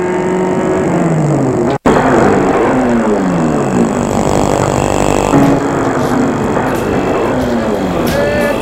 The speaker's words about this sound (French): Le chauffeur va garer la voiture.